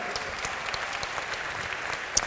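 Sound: audience applause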